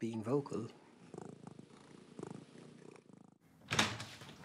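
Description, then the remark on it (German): A domestic cat meows briefly, then purrs in a steady, pulsing rumble before letting out a louder, sharper cry near the end. The cat is heard alone. “Wir hören ein Miauen wirklich gut und dann drehen wir den Kopf.”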